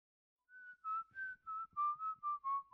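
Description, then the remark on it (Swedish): Someone whistles a short, off-key tune while watering the garden, about eight wavering notes in a loose rhythm, fairly clear with no talking. “När han hörde Malte vissla falskt reste han sig ur soffan och störtade ut.”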